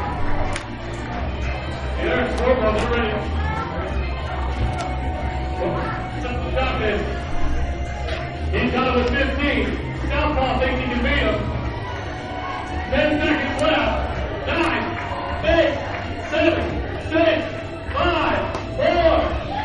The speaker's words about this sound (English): He needs you guys to cheer him on. Here we go. Very ready. 3, 2, 1, go! Make some noise, guys. Come on. Cheer him on. There we go.